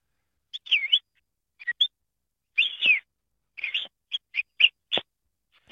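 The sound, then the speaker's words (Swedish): A person imitates a parrot's chatter with a string of short, shrill squawks and whistly chirps in uneven bursts, fairly loud, with brief pauses between them and no ordinary talk. “Jag kan inte ens höra om det är du eller en papegoja som pratar.”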